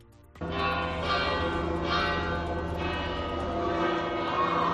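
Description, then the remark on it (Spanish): The bells of Pamplona Cathedral in Navarra ring out loudly and continuously in the afternoon, at 6:08, to announce a new Pope. Their overlapping peals and rich sustained tones fill the air with a steady, resonant clangor, with no voices present. “Así sonaban las campanas de la Catedral de Pamplona ayer por la tarde a las 6 y 8 para anunciar que el mundo tenía un nuevo Papa, continuista, comprometido con la paz y con la justicia social.”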